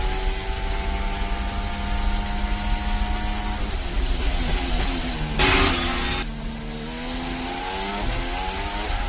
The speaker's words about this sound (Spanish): Os voy a poner el sonido del motor Honda de Alonso para que escuchéis esa vibración. Sé que no es fácil, pero en todo el sonido del motor vais a notar que hay un zumbido permanente en el motor del coche de Fernando Alonso.